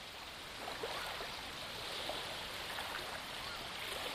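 A steady wash of water noise, soft and continuous like gentle waves or surf, with a broad hiss and slight swells in level, heard on its own without voices.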